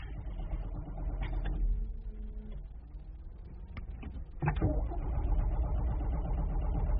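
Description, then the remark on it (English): A car engine struggles and fails to start on a flat battery, giving a low, labored mechanical churning with a couple of sharp clunks partway through; no one speaks. “The bloody battery's as flat as a pancake.”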